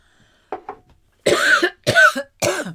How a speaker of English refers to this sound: So I guess I was thinking about getting lung cancer and I had to cough.